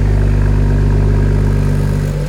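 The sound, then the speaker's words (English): A car exhaust fitted with vacuum-operated valves instead of electronic ones, which close more slowly, drones loudly with a deep, steady engine hum and layered low tones, then the pitch shifts and the sound eases off slightly at the very end. No one speaks. “Vacuum, these are vacuum valves instead of the electronic, is the close is a lot slower.”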